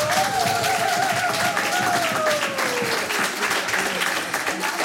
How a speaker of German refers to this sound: Bitte begrüßen Sie mit einem kräftigen Applaus